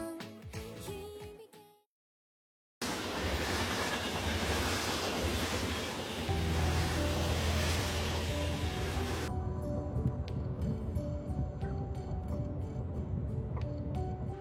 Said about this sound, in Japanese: え、 あれ、あの電車にヨーカちゃん乗ってた。